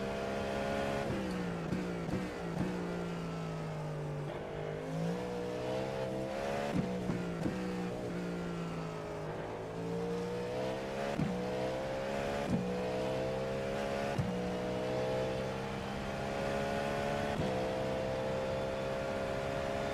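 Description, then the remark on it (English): A car engine revs up and down repeatedly as the driver downshifts quickly going into a corner, using engine braking, with sharp blips between shifts and a steady loud drone throughout, without any talking. “It's just bizarre how much you rely on that engine brake.”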